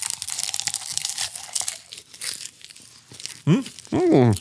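Loud, crackly crunching and rustling of someone munching a big mouthful of popcorn taken from a large handful, for about three seconds, followed by a couple of muffled voiced sounds, as if talking with a full mouth.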